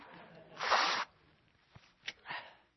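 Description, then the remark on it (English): Someone blows their nose: a loud, rushing half-second blast of air, then a few brief sniffly clicks and a shorter, softer second blow. “That probably don't sound good on a microphone, does it? Blowing my nose.”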